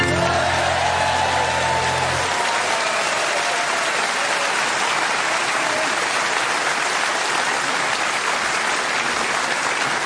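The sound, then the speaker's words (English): A large audience in Richmond claps along loudly and steadily, slightly out of time, for about ten seconds, a dense wash of hands that follows the last sustained note of music fading out in the opening moments. “And who knew that the people of Richmond could clap along slightly out of time like that?”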